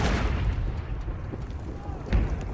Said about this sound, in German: Die Soldaten hocken verängstigt in ihren Gräben, in der Ferne grollen die Kanonen. Heiligabend 1914 in Belgien.